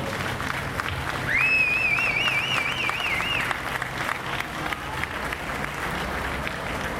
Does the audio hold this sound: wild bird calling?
no